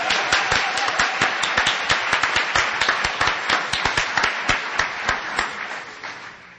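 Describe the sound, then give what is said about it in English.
A crowd applauds steadily, with dense overlapping claps of even loudness that begin to taper off near the end. No one speaks over it. “How about a round of applause for help for Mr.”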